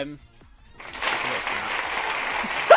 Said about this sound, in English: It's a slight clap for you. Slightly delayed.